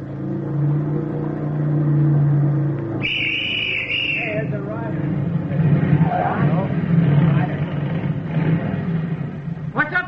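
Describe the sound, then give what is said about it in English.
A motorcycle approaching along a road hums steadily, then whines and revs higher before settling into a rougher, louder rumble, with indistinct voices mixed in underneath. “At 10:18 on the third mile of the road, the platoon heard a motorcycle coming from the direction in which they had come.”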